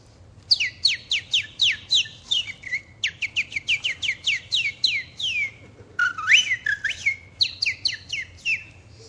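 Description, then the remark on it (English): A person whistles a rapid series of high, sharp chirps imitating sparrows in a tree talking to each other, bursts of quick descending tweets in clusters with brief pauses, fairly loud with no talking. “You know, outside the window this morning, there was a tree, and there were all kinds of sparrows in that tree, and they were talking to each other. You know how sparrows talk to each other? Just like this.”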